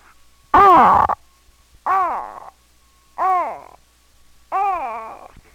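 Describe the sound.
A person imitates a bird call, giving four loud, warbling hoots with rising-then-falling pitch, spaced about a second apart and separated by short silences.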